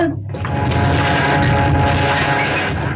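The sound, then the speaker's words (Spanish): The engines of a modern airplane start up, quickly swelling from quiet into a loud, steady roar with a deep throbbing rumble underneath and a broad hiss on top, holding strong to the end. “Trataré de echar a andar los motores.”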